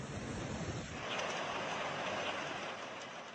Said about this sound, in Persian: خروش سیلی که در آستانه سال نو میلادی زندگی ده‌ها هزار فیلیپینی رو در هم پیچید.